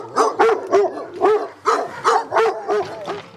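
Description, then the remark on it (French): Dogs bark in a quick, steady series, about eight sharp barks over a few seconds. The barking is loud, with no one talking. “Quand je vais voter pour les provoquer, je vais avec mes chiens à pied.”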